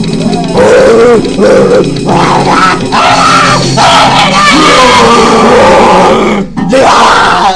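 A crowd of many thousands at a band's first concert cheers loudly and continuously, a dense roar of shouts, yells and whoops that holds steady for about seven seconds before a brief dip near the end.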